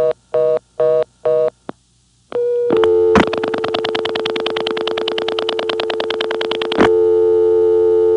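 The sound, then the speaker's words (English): A few pulsing telephone tone bursts give way to a steady dial tone, which is broken by a loud click and then a rapid run of mechanical no-test clicks before the plain tone returns; a composite made from real no-test clicks recorded over long distance. “Then I would hang up and quickly get a dial tone, only to hear my dial tone interrupted like this.”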